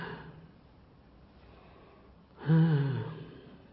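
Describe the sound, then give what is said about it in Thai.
A soft, drawn-out breath in, followed by a sudden forceful exhale that briefly grows louder with a slight voiced edge, with no talking. “หายใจใหม่อีกทีนึงหายใจแรงๆแล้วก็ปล่อยออกมา”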